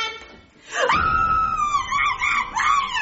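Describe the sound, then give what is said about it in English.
A woman lets out a loud, sustained high-pitched scream that rises sharply, holds for a couple of seconds with a wavering tone, then surges again near the end. “What the hell are you screaming about?”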